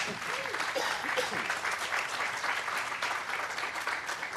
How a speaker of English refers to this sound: Feel free to applaud. I saw that starting.